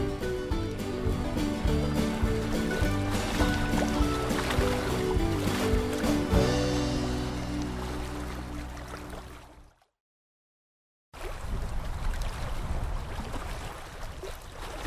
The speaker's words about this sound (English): Just paddling along the Wisconsin River right now, or at least thinking about it.